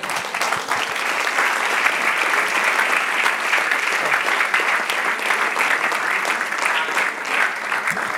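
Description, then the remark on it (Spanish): Sustained applause for the Lord from a large audience after a prayer, many hands clapping steadily and densely for several seconds at a consistent, fairly loud level, with no voices standing out. “Dale otro aplauso, Señor.”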